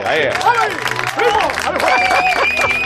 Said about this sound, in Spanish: Con qué desgana están hoy los que aplauden, ¿no?